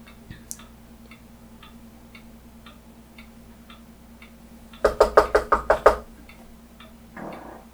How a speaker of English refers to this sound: Or do I try to be bold and knock on his door? I'm fresh out of ideas here. Even if I got up the nerve, what possible reason would I have for knocking on his door?